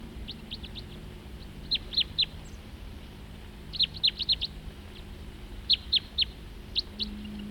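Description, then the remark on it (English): Sharp, high chip calls of a crossbill in flight come in short bursts of two to four, repeated several times over a low steady background hum. “And another crossbill flying nearby.”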